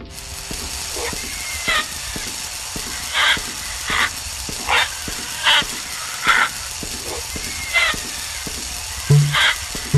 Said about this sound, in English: Now that ding, that means I'm losing lives.